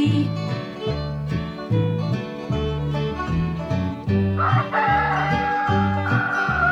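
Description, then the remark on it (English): A rooster crows over a bouncy, steady musical backing with a thumping bass line, its call rising in the second half and standing out clearly above the music. “Fee deedle dee deedle dee dee dee, the rooster's talking to me.”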